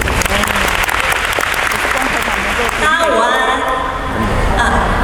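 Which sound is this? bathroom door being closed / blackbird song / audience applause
audience applause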